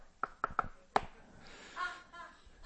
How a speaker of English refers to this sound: Have the secret knock.